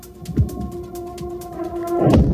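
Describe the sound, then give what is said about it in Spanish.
Explosions during a Russian bombardment in Ukraine in the early morning hours: a dull blast early on and a heavier, rumbling boom near the end, with a steady droning tone holding underneath throughout. “En apenas 2 horas se han registrado más de 50 explosiones”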